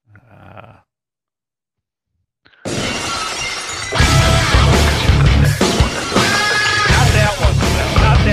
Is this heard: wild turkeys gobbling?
no